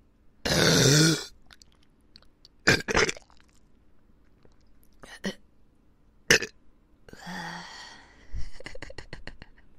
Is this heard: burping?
yes